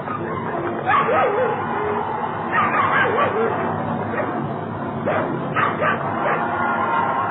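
Several dogs bark, yip and whimper in a continuous, agitated chorus, with sharper bursts around the middle and again near the end, all loud against a steady noisy background.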